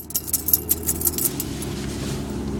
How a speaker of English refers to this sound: something like that, but quieter, kind of constantly, that ding, ding, ding, that's my keys swinging back and forth and clanging against each other.